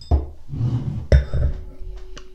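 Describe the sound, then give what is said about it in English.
Two bright clinks of wine glasses (not champagne flutes), fairly loud, about a second apart, as sparkling wine is poured with a soft fizzing and faint rustling between and after them. “So there you go. Glass, please.”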